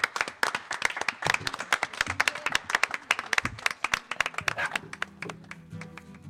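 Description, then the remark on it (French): A round of applause from a small group for the hosts and technicians, dense overlapping claps for several seconds that thin out toward the end, with a faint murmur of voices as it fades. “Voilà, et puis évidemment tous les gens qui nous ont accueillis, tous les techniciens, tout le monde, un applause.”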